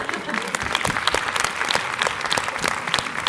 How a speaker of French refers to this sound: Mais on peut t'applaudir? Exactement.